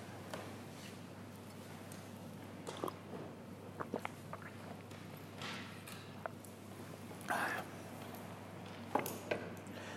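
Someone takes quiet sips of water, with small slurps, swallows and faint clicks scattered over several seconds against a low steady hum. No one speaks.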